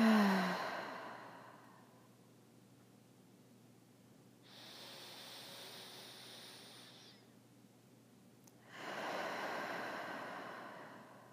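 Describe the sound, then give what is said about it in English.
Slow, audible breathing with no talking during a guided relaxation: deep breaths in through the nose and soft airy exhales out through the mouth, separated by a quieter hissing breath and pauses, ending on a longer, fuller sigh-like out-breath. “Breathing in through our nose and out through our mouth.”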